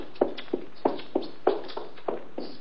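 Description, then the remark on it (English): Quick, hurried footsteps of a man practically running as he leaves, about eight sharp steps in an even, brisk rhythm at moderate loudness, with no voices over them. “He was practically running when he left.”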